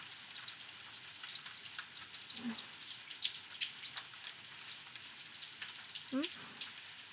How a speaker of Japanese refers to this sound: 私も雨はそんなに好きじゃないけど、雨の音は嫌いじゃないんだよね。ちょっと矛盾してるかもしれないけど、雨の音って聞いてるとなんか落ち着くよね。